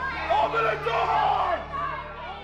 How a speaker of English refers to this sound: And that is how an angry and extremely well-armed mob ended up inside the Capitol, racing up the stairs and filling the hallway in front of the Senate chamber where a session was in progress.